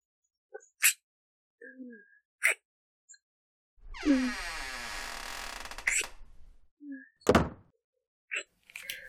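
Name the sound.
door opening and closing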